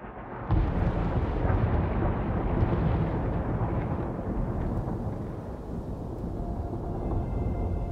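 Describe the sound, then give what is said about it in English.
A heavy metal song by an English three-piece metal band formed in 2001 bursts in after a split second of quiet, a thick, loud wall of distorted guitars and pounding drums that roars on steadily without any voices. “And this is from an English three-piece metal band and was formed in 2001.”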